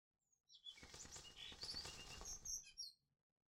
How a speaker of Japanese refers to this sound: あ、鳥が飛んでる。この辺にいたら危ないよー。鳥って羽があるんだから、今からでもその気になれば、隕石の落ちてこないところまで飛んでいけるのかな。